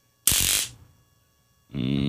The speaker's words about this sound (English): Or he holds on to the end of it's basically cattle prod, you know. More or less, yeah. He hangs on to that when I give it the juice, and here's what it sounds like, in case you haven't heard.